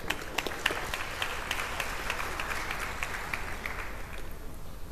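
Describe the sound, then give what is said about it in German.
An audience applauds a speaker being introduced at a talk. A dense wash of many hands clapping, with sharp individual claps standing out, holds at an even level before thinning slightly toward the end. “Und Applaus danke.”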